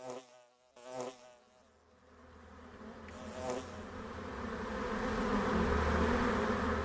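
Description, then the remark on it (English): A steady drone of buzzing bees that swells louder toward the end, with a few individual bees passing by at the start before blending into a dense, continuous hum. “I personally don't think we could survive without bees.”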